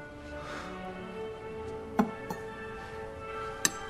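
A few sharp, irregular clinks of cutlery on a plate as Sang-woo cuts a piece of his steak and eats it with a fork at a dinner held for the finalists, over a steady, soft tonal background hum.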